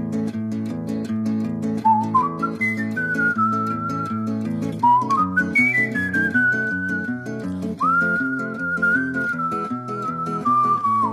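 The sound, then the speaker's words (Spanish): A song with a clear whistled melody gliding and sustaining long notes over a full instrumental accompaniment with steady bass and chords, loud and continuous with no talking. “Y hoy tenemos un programa especial y para esto pues voy a permitirme abrir con pues una canción que tiene mucho que ver con lo que vamos a hablar.”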